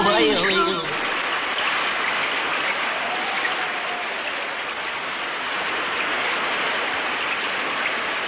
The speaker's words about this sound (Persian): این بارون از اونی هم که ما فکر میکردیم بدتره.